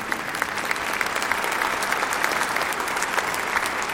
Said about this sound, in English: Which is the, yeah, you can clap if you want.